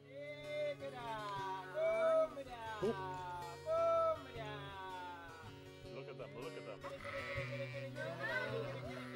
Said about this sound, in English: But then check out what happens when the shepherd comes, and he does basically the exact same call to the same sheep.